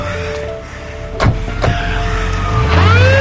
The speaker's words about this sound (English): A squad car pulls up.